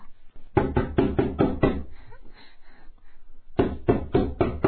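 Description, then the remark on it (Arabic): Loud knocking on a door by a father at his son's door: a quick burst of about six raps, a short pause, then another rapid series of knocks. No voices are heard. “افتح الباب يا أحمد.”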